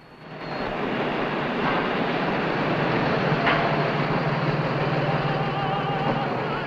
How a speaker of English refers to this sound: Tram cars pass over a track above an alley.